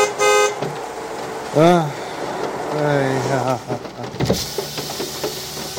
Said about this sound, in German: Officer, ich habe nur gehupt, weil da vorne...